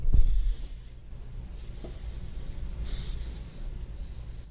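A hissing cockroach, taken from an opened cage, forces air out of its spiracles to ward off predators, producing several short, high, breathy hisses that rise and fade like air escaping a balloon, with low rustling handling sounds underneath.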